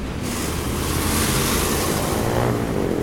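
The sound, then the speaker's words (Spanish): A constant, dense roar of busy city avenue traffic on Avenida Reforma at the Ángel de la Reforma in Mexico, measured at around 62 to 73 decibels, fills the scene, loud and steady with a slight swell midway, like many vehicles passing. No one speaks. “Ahora estamos en el Ángel de la Reforma, en Avenida Reforma, un lugar típico de México.”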